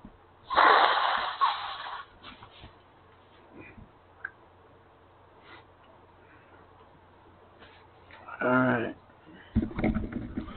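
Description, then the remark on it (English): Loud nose blowing: a long, noisy blast into a tissue, then quieter rustling and small clicks, followed by two more short, forceful honks near the end. “Excuse me a bit, I'm gonna blow my nose.”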